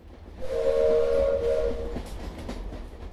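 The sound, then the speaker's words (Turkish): The Ankara Express train rumbles past at night under moonlight with a steady low roar, and a long whistle sounds for over a second before fading into the continuing rattle of the cars. “ya da şöyle düzeltelim, Ankara Ekspresi'nin gecenin içerisindeki o karanlığın içindeki süzülmesinden, ay ışığı öncülüğünde o yolculuğundan”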